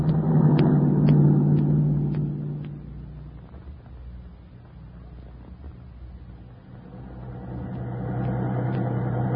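A car engine hums steadily, its low drone dipping mid-clip before swelling again as it accelerates, continuous with no voices; the car is being driven by a stranger.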